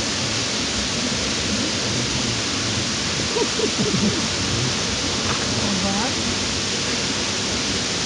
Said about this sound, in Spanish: Vele poniendo un poquito de agua ahí a todos.